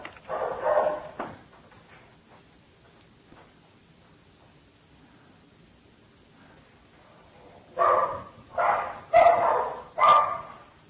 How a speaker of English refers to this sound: That's the first dog break I think we've ever taken.